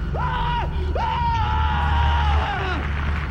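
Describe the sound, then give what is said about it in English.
Two loud, sustained human screams, a short one followed by a longer drawn-out cry, over a steady low rumble in the background, at the end of a stage trick. “With each one, a silent moment passed, the end of the trick punctuated by a scream.”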